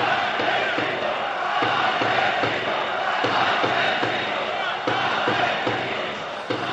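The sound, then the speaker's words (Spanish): A stadium crowd in Vallecas at the Rayo Vallecano–Leganés match shouts "asesinos" in a loud, rhythmic chant, the massed voices pulsing in a steady beat throughout, with no separate speech standing out. “Gritos de asesinos en Vallecas, que repito, están afectadas por la cercanía del Pozo del Tío Raimundo, una de las estaciones en las que voló un tren.”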